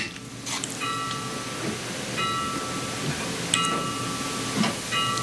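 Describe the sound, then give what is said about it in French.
A bell rings out three times at a slow, uneven pace, each stroke a bright metallic tone that hangs briefly before fading, over a steady background hiss and low rumble. “elle va dire un chiffre, ensuite c'est le bug total, on entend juste une cloche sonner, c'était peut-être le tocsin d'ailleurs, et ensuite elle repart comme en 40, mais alors sur toute autre chose.”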